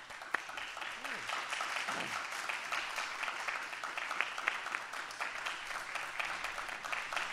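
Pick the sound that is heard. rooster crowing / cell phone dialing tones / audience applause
audience applause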